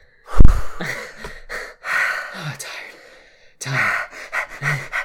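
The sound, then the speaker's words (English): A person pants heavily, a series of loud, breathy gasps and exhales in an uneven rhythm, with a brief pause before several more quick breaths. “Just that, like breathing for half the episode. Half the episode. Very heavily.”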